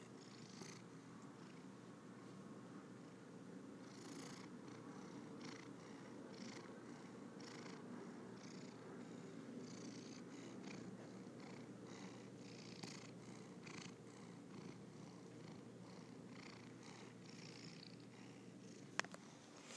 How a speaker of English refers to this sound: You have just been witness to another cat purring session.